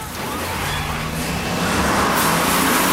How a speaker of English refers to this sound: The bus sets off, plowing through the burning, upturned vehicles littering the street.